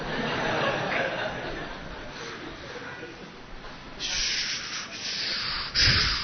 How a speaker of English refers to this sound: Sound of waves.